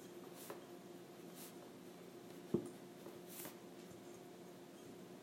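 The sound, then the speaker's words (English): Quiet scratching of a pen writing words on paper: a few short, separate strokes spread out over several seconds, with one small tap in the middle and no talking. “is writing some words down on her paper”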